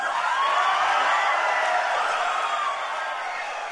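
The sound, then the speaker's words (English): A large crowd at an event with presidential candidates applauds and cheers as Senator Marco Rubio takes the stage and tells them Speaker John Boehner will resign: a loud, steady wash of clapping with scattered whoops, sustained throughout and easing only slightly toward the end. “And that applause went on for a lot longer than we're playing it right now, right?”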